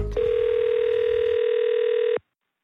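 A steady, unbroken telephone dial tone hums at a single mid pitch for about two seconds after a brief click, then cuts off abruptly into silence, as a phone call is being placed.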